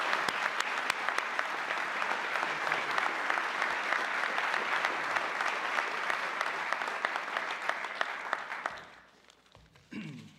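A crowd applauds steadily for about nine seconds, a dense, even wash of many hands clapping, then it tapers off quickly into near quiet with a brief faint noise at the very end.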